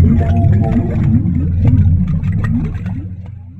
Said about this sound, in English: So for the boss roar, the lava boss roar, I just pitched down the recording a bit and put it into the game with a bit of distortion and compression, and also mixed in a granulated recording of myself burbling into a cup of water.